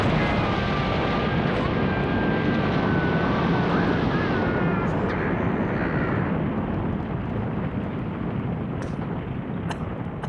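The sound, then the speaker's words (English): A ceiling and wall collapse with a heavy, continuous roaring rumble of crumbling debris, loud and steady for about ten seconds, with faint high scraping whines early on and a slight easing toward the end. “We knocked down a wall.”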